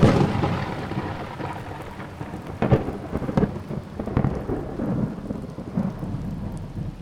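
An approaching thunderstorm over a field, with steady heavy rain pouring down and low rumbles of thunder rolling through, punctuated by a few sharper crackling strikes, enveloping, with no voices.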